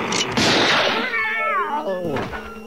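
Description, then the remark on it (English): A cat lets out a loud, drawn-out yowling meow, opening with a harsh screech and then sliding down in pitch, with a shorter cry trailing after. “We're gonna shoot the kitty.”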